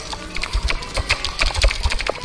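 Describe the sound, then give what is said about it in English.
A voice imitates a creature's loud clicking: a rapid, uneven run of sharp clicks lasting a couple of seconds, with no words spoken. “And she makes a series of loud clicking noises.”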